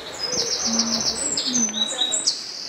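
Several birds sing outdoors in spring, with bright high chirps and trills overlapping against a soft steady background, while a lower cooing call sounds faintly beneath them.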